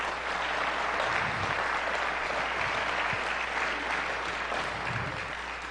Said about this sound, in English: If you love Pastor and his precious wife, give them a hand of love.